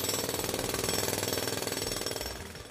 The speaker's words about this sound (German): So, was seht ihr jetzt vor eurem Auge? Also ich sehe eine Baustelle, ich denke an eine große Stadt, an Staubgeruch und an einen grauen Himmel.